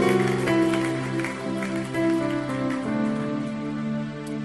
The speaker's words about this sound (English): You can clap unto the Lord and bless His name.